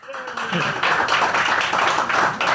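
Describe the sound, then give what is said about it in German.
An audience claps for Schwenningen in a clap vote between Schwenningen and Köln, a dense, steady burst of applause that holds at an even loudness for a couple of seconds, with a voice briefly audible as it begins. “Aber es kam Klatschen aus einer Region, das nicht Schwenningen war auch.”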